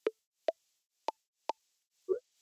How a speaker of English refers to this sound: I'm going to touch the bottom as you can hear the different tones. First tone, you remember, that just allows you to know that you are ready to swipe up, and then you got its attention that you want to implement one of the options.